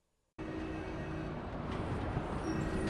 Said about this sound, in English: Now is the rush hour. Quite a lot of cars just passing by a paper stand.